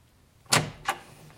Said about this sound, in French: monte les escaliers et frappe à la porte de la chambre de Lucille